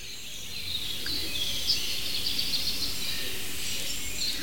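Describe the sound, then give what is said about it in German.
A dense chorus of songbirds, including a song thrush, a robin and a firecrest, thin high twittering and trills overlapping continuously over a steady low background hum, with no single call standing out. “Natürlich auch eine Singdrossel und Rotkehlchen und sogar ein kleines zartes Sommergoldhähnchen war mittendrin.”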